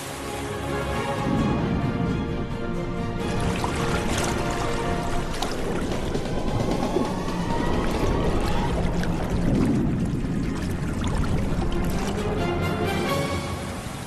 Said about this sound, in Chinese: 奋力踩水，收起网口，依靠口袋战术和默契配合，才能有可观的收获。